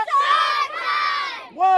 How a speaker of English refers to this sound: Cannonball! That's the sound of kids playing and jumping into the San Joaquin River in the rural west side town of Firebaugh.